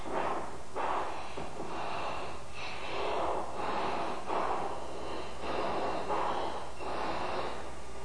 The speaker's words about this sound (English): He's breathing that hard because he's trying to keep the blood from running down out of his brain and blacking out. He's sustaining so many G's.